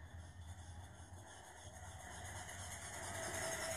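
The motor of a vibrator sex toy, switched on and pressed against the body, hums steadily, a continuous low buzzing drone with a faint rasping, rubbing texture that swells slightly toward the end. No one speaks.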